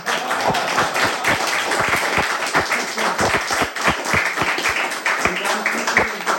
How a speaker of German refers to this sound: Ich würde jetzt einfach sagen, großer Applaus, danke.